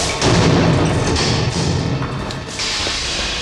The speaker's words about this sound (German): Beiden Besuchern ließ er den Vortritt. Dies jedoch nicht aus Höflichkeit, sondern um die Tür, die hinter ihnen schwer ins Schloss fiel, wieder zuzustellen.